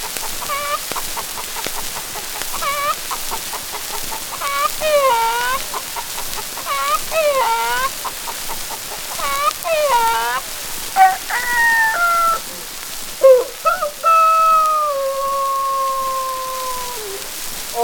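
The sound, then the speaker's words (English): A hen cackles in quick, repeated bursts at a hen roost while several roosters crow over one another, their long drawn-out calls rising and trailing off near the end. The barnyard chorus is fairly loud. “A hen cackling with a rooster chorus.”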